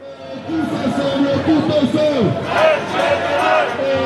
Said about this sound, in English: This has become the soundtrack to this winter in France. Protests. Loud, colourful, sometimes even tuneful.